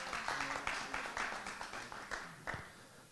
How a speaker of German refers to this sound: Es ist ein Vorrecht, so viele Menschen in einer öffentlichen Veranstaltung zu sehen. Gebt euch das mal einen Applaus.